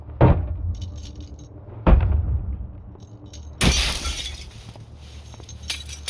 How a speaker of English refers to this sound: One second, just unlocking the door.